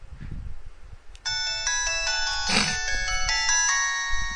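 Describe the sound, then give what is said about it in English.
An LG cell phone plays its shutdown jingle, a short bright electronic melody of layered tones lasting a few seconds, heard clearly with low background rumble and no talking. “Listen, this is the shutdown music.”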